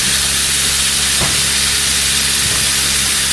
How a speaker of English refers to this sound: So you hear the sewing machine run, and it's actually stitching the binding as you go.